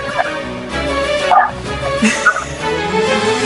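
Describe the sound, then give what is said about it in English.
Several dogs bark and yip excitedly in a steady, overlapping stream, loud, with some whimpering mixed in over a busy background. “You're getting an insight into my life here right now. Dogs barking, babies crying.”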